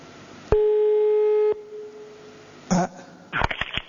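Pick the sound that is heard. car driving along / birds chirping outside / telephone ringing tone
telephone ringing tone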